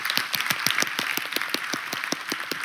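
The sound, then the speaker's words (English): A church audience clapping steadily, with sharp individual claps standing out in a fairly regular rhythm over a dense wash of applause, moderately loud and sustained with no voices. “You want to keep clapping? Keep clapping.”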